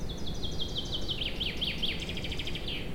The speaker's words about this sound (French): Tu l'as entendu, le oiseau? Ouais. Normalement, oui, hein, j'ai fait des essais, normalement, on l'entend.